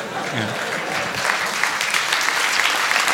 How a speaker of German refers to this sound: Mobbing! Der Applaus war für Mobbing.